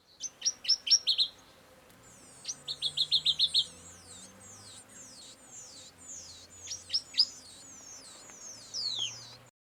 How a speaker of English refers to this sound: You want to hear what it sounds like? Yes, I do. Here's the brown woodland warbler baby. Warbling.